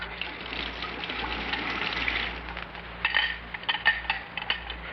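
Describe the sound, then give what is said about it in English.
Water pours steadily into a glass for a few seconds, followed by a scattering of light clinks and small splashes, fairly quiet, with no voices. “Water or soda, pussycat?”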